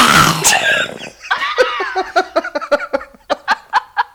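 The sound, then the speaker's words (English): A man's voice imitates zombie noises: a raspy, gurgling growl, then a strained moan that breaks into a rapid series of rhythmic guttural grunts, growing punchier toward the end. “most useless talent is making the zombie sounds.”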